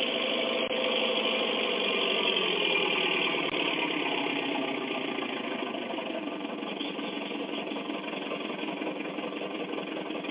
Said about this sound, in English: Oh, who's Big Brute? That big double caterpillar tractor is Big Brute. That is a bunch of big machinery.